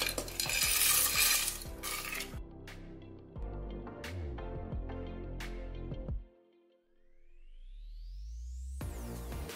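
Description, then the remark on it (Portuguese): 1.5 cups of dry macaroni pour into a pressure cooker with a rattling rush, followed by several sharp spoon clinks and scraping stirs against the metal, then the pressure cooker lid clanks down and a rising whistle-like tone begins. “Vou acrescentar aqui o macarrão, tô usando 1,5 xícara do macarrão.”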